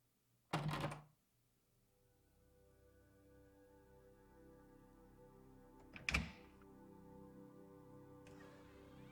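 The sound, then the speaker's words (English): A door shuts with a solid thunk, followed several seconds later by a second sharp knock, both over a quiet, steady background of soft sustained tones. No one speaks. “Close the door while you're changing, then leave the door open when you're under the towel.”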